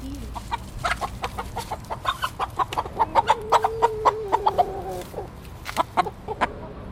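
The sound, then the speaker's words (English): Backyard urban-farm hens, born and raised in Vancouver, cluck steadily, a busy stream of short, overlapping clucks with a few longer drawn-out calls mixed in, over a low background hum and no talking. “These hens are part of Back Alley Urban Farms”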